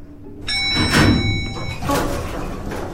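The sliding doors of an old elevator rumble open one floor below with a steady mechanical whine, then settle with a soft thud, muffled, with no voices.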